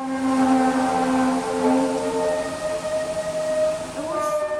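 Long, eerie trumpet-like wails from freight trains shunting as they slow and change direction, several sustained tones overlapping and sliding in pitch over a steady rumbling background, without any talking.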